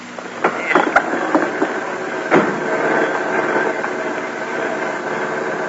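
A car engine runs with a steady, moderately loud rumble, a few sharp knocks and clatters standing out in the first couple of seconds before the drone settles in. No voices.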